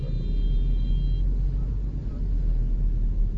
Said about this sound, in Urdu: یہ سب ماشاءاللہ آپ کی اس خدمت میں سب یہ موٹر سائیکل ہیں, گاڑیاں سب آگے پیچھے ہیں.